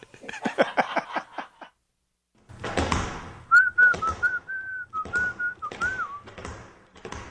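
A person whistles a short, wavering tune at a steady mid pitch for a few seconds while skipping, over a patter of rhythmic thumps and shuffling steps, with quick tapping sounds just before.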